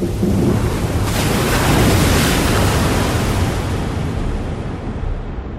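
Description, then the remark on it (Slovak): A loud, steady roar of strong wind mixed with rushing, churning water, swelling slightly in the middle and continuing without a break. No voices are present. “Potom sa odrazu nebesá zatemnili, zdvihol sa silný vietor a začali sa vody valiť na zem.”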